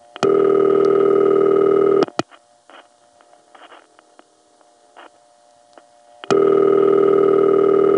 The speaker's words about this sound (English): because it sounds like it's going glub glub glub glub glub glub glub glub glub glub. The most famous ring of this type was Hempstead's number one crossbar ring,